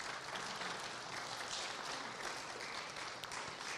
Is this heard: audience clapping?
yes